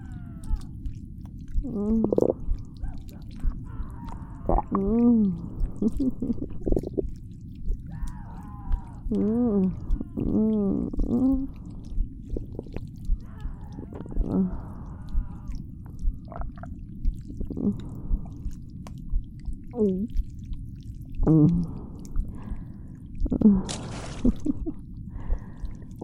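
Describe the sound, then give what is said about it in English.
Wet, squishy chewing and gulping swallows recur over a constant deep gurgling rumble, with occasional bursts of slurping and groaning throat sounds. “He was a bit crunchy.”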